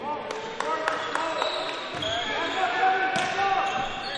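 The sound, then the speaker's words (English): Mike Adelabu's hand sharply slapping a basketball several times before inbounding for the Lions against the Longhorns, in quick, uneven succession, crisp, over a steady arena crowd murmur with indistinct voices in the background. “Slap of the basketball by Adelabu.”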